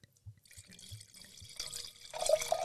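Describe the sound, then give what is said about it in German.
Wine being poured into a glass: a few soft glugs at first, then a steady splashing stream that grows louder and brighter toward the end. No one speaks. “Jetzt mal einen halben Liter im Glas.”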